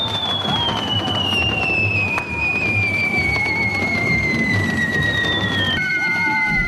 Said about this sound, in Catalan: Ja us sentiu, un espectacular correfoc ha posat a nit el punt final a les festes de Sant Sebastià al centre de Palma, tot i l'alerta taronja per vent decretada durant la jornada.